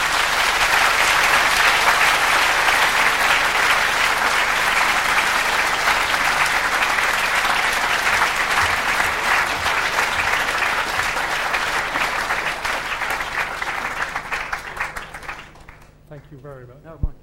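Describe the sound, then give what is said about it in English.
A crowd applauds at the end of a talk about a book, with dense, crackling clapping that holds strong for about fourteen seconds, then thins out and fades to a few scattered claps. “Well, as the applause attests, it's what every girl and boy should know, and we all do now, or will once we've bought a copy shortly.”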